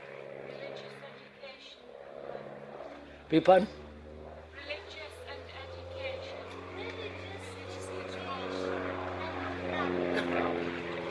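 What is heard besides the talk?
aeroplane flying overhead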